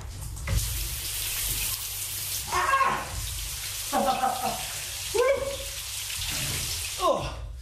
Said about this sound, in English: here is a snippet of audio which he recorded for his BBC podcast, Just One Thing, and it's of him getting into a cold shower.